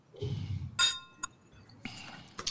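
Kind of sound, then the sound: household object, glasses clinking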